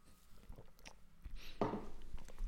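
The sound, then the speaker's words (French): A small sip of water: a few soft wet mouth clicks, then a short slurp and gulp, with no talking. “Petite gorgée d'eau parce que ici j'en ai.”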